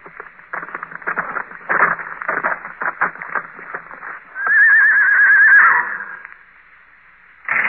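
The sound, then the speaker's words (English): Hooves clop steadily for a few seconds, then a horse gives a loud, wavering whinny as it comes to a stop outside. The sound is thin and muffled, like an old radio recording. “At 8, they heard a horse stop outside.”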